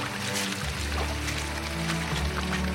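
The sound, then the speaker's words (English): Water cascades steadily down a cliff face, a continuous broad splashing rush with a low droning hum underneath, loud, with no one talking. “There's water cascading off the side of it.”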